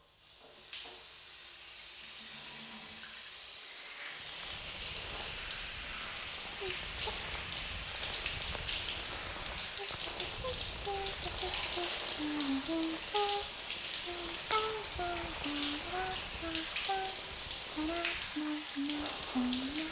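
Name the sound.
shower water running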